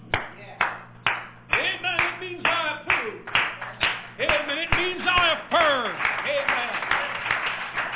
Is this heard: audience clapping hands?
yes